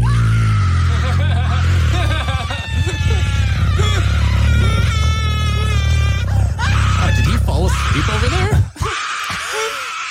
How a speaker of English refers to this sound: She only screams like that for you, Jordan. Yeah, she really does.